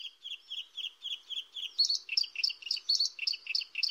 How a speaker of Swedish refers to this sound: Om jag säger att den sjunger i fjällen, gärna någonstans i kantzonen mellan fjällbjörkskog och kalfjäll, då vet ni kanske, blåhake.